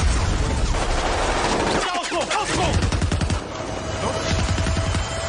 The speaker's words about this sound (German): Pulsierende Töne, verzerrte Geräusche, ratternde Schusssalven und der infernalische Lärm explodierender Granaten werden unterschnitten von absoluter Stille.